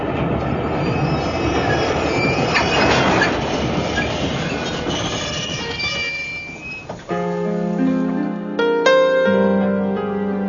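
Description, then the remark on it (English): A train rumbles along the rails with dense clattering wheel noise, then slows as metallic squeals and braking tones rise for the last few seconds, loud, with no voices. “And now let us stop these trains.”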